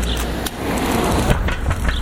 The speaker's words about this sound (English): Ooh, there's a car. So I'm going to cross the road in a minute.